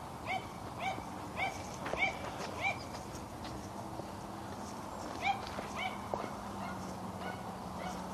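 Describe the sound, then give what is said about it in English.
Several dogs bark repeatedly outdoors in the morning, a run of quick yaps, a short lull, then a few more barks, over a steady background hum of outdoor ambience. “Actually, there's several dogs.”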